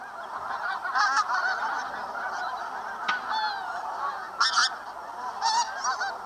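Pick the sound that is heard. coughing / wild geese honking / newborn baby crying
wild geese honking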